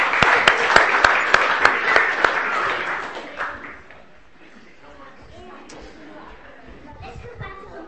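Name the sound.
round of applause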